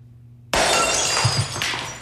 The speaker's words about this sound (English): Oh, what are you doing to me? My plasma TV you smashed.